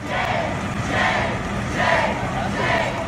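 A crowd of protesters shouts continuously as legislators leave the building on Thursday after the TrumpCare vote, voices merging into a loud roar that swells in rhythmic waves about once a second, like repeated chanting.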